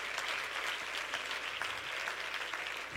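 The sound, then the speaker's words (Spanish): A steady burst of applause from a crowd, dense overlapping claps forming a continuous bright wash at an even level throughout, with no voices over it. “Si ese es el aplauso, vamos.”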